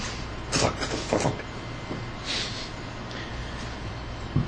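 A door slides and bumps shut amid a few scattered knocks and clunks, over a steady background hum with no one talking.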